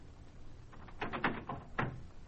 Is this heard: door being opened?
yes